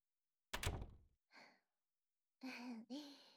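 A room door shuts with a single solid thud, followed by a soft breath and then a short, drawn-out vocal sound.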